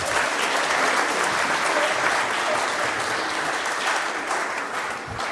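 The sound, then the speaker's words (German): Sustained applause from an audience in a church for the performers, a dense, steady patter of many hands clapping at once that fades slightly toward the end, with no talking over it. “Also man darf in der Kirche auch mal klatschen, wenn einem was gefallen hat.”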